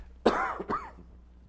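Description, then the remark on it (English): A loud cough right into the microphone, two harsh bursts in quick succession followed by a low hum and faint echo. No one speaks. “And I'll try and not cough directly into the microphone either, so that would be a delight.”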